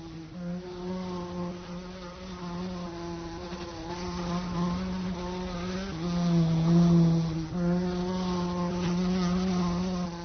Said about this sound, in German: Als sich dann eines Tages eine Fliege in ihre Einzelzelle verirrte, empfand sie schon fast so etwas wie Freude, denn diese Fliege lebte